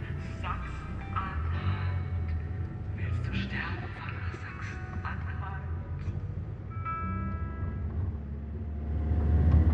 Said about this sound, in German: sag mal, das Auto ruckelt total. Nimmst du extra jedes Schlagloch mit oder was? Dein Fahrstil ist, wow, sehr zu wünschen übrig.